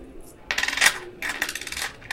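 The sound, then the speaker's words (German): Coins jingle and clink together as they're handed over to pay 3 euros for a newspaper at a kiosk, in two bright bursts of metallic rattling, fairly loud, with no talking. “Here is 3 euros, please.”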